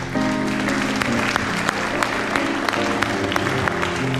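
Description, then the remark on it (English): An audience breaks into sustained applause for a preacher after a sermon preached in 39 minutes, a dense, steady wash of many hands clapping with a few sharper individual claps popping out, holding at a fairly loud, even level throughout. “Boy, they never applaud for me.”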